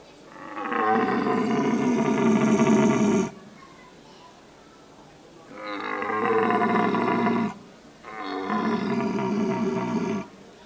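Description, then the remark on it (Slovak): Three long, deep, drawn-out bellows from a red deer stag giving its searching call at the start of the rut, each lasting a few seconds with short pauses between, slow and monotonous, loud. “Tak je to pomalý, monotónny hlas, ten jeleň skrátka sa ešte len na začiatku tej ruje rozbieha”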